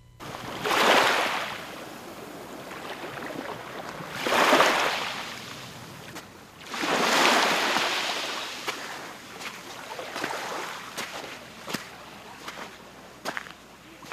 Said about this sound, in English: This stretch of beach at Fort Kamehameha is just a stone's throw from the airport's reef runway, so it's a strange mix of gentle waves lapping, airplane noise, and bird calls off in the distance.